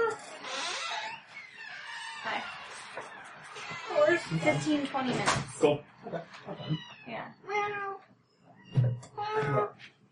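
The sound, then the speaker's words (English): A male cat meows several times in drawn-out, wavering cries, fairly loud, with a person's voice speaking intermittently between and around the calls, as the cat tries to get outside through a glass pane. “Meow. Dude, there's glass there. You can't go outside. No, there's another cat!”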